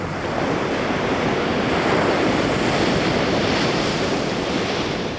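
ocean waves

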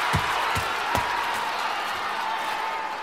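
crowd shouting and cheering

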